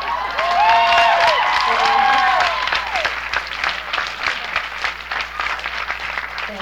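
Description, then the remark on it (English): A crowd claps steadily throughout, a dense patter of many hands, with a few whistles and cheers rising over it early on before the applause settles and thins slightly. “So you don't even have to clap, you know?”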